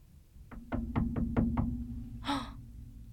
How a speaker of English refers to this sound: The next night, he hears a little knock on his door.